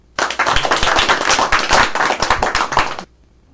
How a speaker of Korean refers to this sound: 예, 박수.